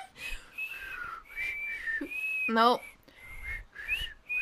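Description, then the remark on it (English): Someone tries to whistle, producing thin, wavering tones in several short, breathy bursts, with a brief voiced sound breaking in midway. “I'm getting the tiniest whistle up.”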